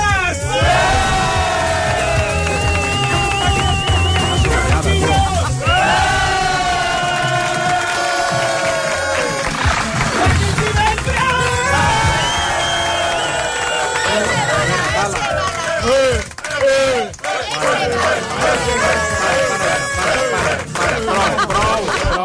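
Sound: audience applause and cheering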